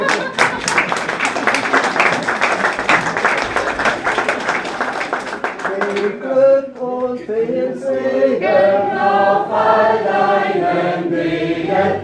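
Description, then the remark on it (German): A church audience claps together for about six seconds after a service, for a birthday among them, a dense steady patter of many hands, then the clapping stops and voices break into a song. “Wieder klatschen.”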